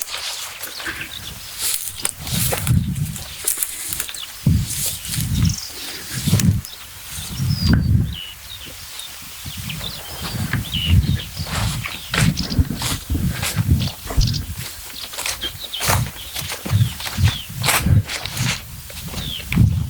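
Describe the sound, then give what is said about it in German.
A stonechat's sharp, repeated clicking notes, while nightingales sing more faintly behind it with varied high chirps and trills; no one speaks. “Das ist natürlich Schwarzklärchen. Aber dahinter sind Nachtigallen.”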